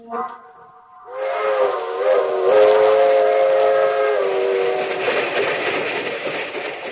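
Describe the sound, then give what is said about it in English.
A steam passenger train's whistle blows a long, loud harmonic wail over the rumble and clatter of the train rolling along the rails, the rushing noise sustained throughout. “That train is the Southeast Limited. See it? Long, sleek, and powerful. Ticking off the miles and the humming rails.”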